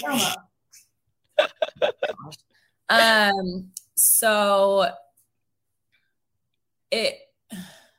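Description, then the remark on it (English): A dog has a sneezing fit: a quick run of short, sharp sneezing snorts, then a person imitates the sneezes with two longer, strained vocal bursts, followed by a couple more brief snorts. “My dog is over here having a sneeze attack.”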